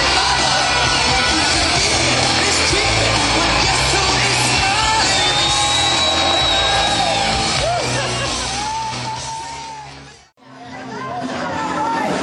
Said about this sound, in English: still screaming and they're still throwing picks. Yeah, they keep throwing out picks, don't they? Everybody is.